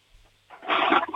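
toilet flushing

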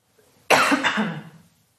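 coughing

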